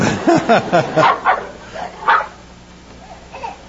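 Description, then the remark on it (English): A dog barks in a quick burst of five or six sharp barks, pauses, lets out one more bark, then trails off into faint yips. Fairly loud, with no talking. “There's nobody over on the other side of the fence, but it'll stare and growl.”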